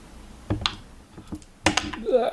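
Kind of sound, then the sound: household object, dice being rolled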